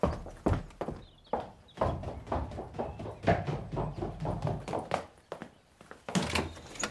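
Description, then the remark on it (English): Someone knocks on a front door with a long series of sharp, hollow raps in a loose, uneven rhythm, fairly quiet and muffled, with no voices alongside. “Did I knock too loud?”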